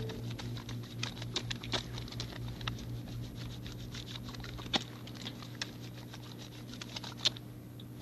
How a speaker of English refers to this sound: Soap. Water and soap and rubbing.